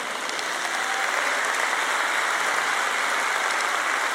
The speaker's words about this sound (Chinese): 我在台上分享时，听着有人大声鼓掌，看见某些人的表情很有趣。